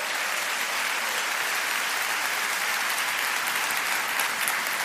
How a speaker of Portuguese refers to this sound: E eu quero que todos os adultos que estão aqui concordem comigo e deem uma salva de palmas a cada jovem, dizendo com isso: Deus ama vocês.